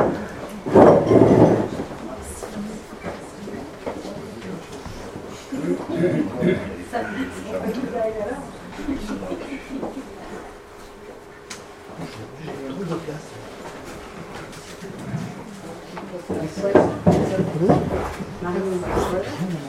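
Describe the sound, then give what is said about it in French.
Chairs scrape and shuffle across a floor in a busy room as an audience settles in for a conference at the Pierre Bourdan library, with loud rumbling bursts at the start and again near the end, under a steady murmur of people talking. “Alors je vais attendre que les chaises, que tout le monde soit installé.”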